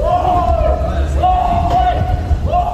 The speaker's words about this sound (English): This is a victim filmed with a phone, screaming as he tries to fight off abductors.